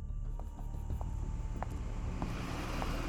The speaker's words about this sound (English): Luckily, the driver saw Cricket. The car was able to slow down in time, leaving Cricket unscathed.